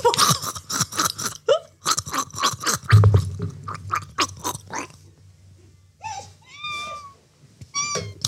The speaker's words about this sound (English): So I'm going to sing it whilst gargling and you're going to have to guess the song.